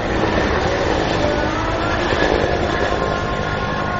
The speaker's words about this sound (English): Over the village of Irakandi in eastern Sri Lanka, the sound of an incoming military helicopter drowns out the call to prayer from the mosque.